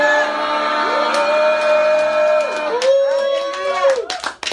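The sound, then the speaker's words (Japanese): An audience at a Christian worship service shouts hallelujah together when asked to, two long drawn-out phrases from many voices in unison, loud and full, ringing out in a reverberant room. “じゃあ皆さんハレルヤと叫びましょう、ね、ハレルヤ。”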